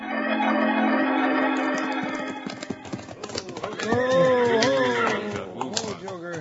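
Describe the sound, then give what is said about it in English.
Horses clip-clop in and are reined to a halt near the steps of the Springerville schoolhouse, where a town meeting is being held; hoofbeats slow and scatter, followed by a horse's whinny and voices over a fading musical tone. “And now, Abner, Wild Bill, and Jingles are reining up their horses near the schoolhouse steps.”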